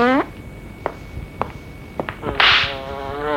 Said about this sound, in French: La mouche va, vient, elle semble effrayée, elle fait un bruit effroyable aux oreilles du vieil homme. Une grosse mouche noire que l'on trouve souvent dans les allées.